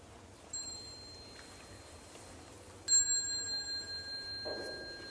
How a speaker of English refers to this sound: When you hear the bell, you might like to stand up and bow to the Sangha before you go out.